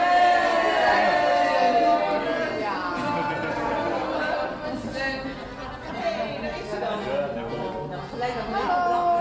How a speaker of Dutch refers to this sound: Een gejuich gaat op.